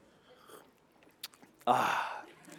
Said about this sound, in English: Can you see what's coming out the top of my cup of coffee there? You see it, anything right there? Steam. A little bit of steam. I saw this little bit of vapor. Do you guys care if I take a little sip of this? It might be really hot.